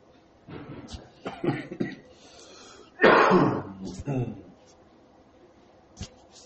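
A short, harsh cough bursts out loudly, followed by a few quieter throat sounds and breathy noises, with soft vocal murmurs before it; a cough from a tickle in the throat.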